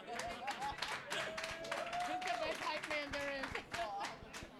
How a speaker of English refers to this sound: Round of applause.